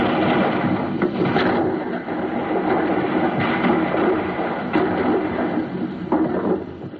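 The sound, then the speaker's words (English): A continuous low, rumbling roar, like a rolled kettle drum mixed with deep piano notes, with several heavier booming accents rising out of it, imitating cannon fire. “Yesterday, the sound of cannon fire was made by striking a kettle drum and hitting the low notes on the piano, like this.”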